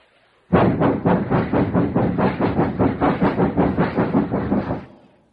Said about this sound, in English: It's a long train. But I'm getting there. Now, here's the best part. You can hear this sound anytime you happen to be around a train.